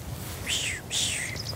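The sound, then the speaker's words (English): A chaffinch sings, two bright descending trilled phrases followed by a few quick high chirps, clear against a soft background hiss with no one talking. “No, the little bird. That's a little bird. This one. Yeah. It's a chaffinch.”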